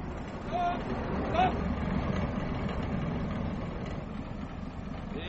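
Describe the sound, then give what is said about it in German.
A heavy truck engine rumbles steadily, deep and continuous, with a couple of brief high squeaks early on as it shifts into gear and pulls away. “Während sie noch mit ihm herumstritten, warf ich den Gang rein und fuhr an.”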